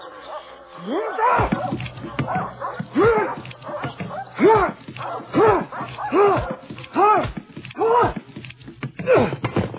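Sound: dogs barking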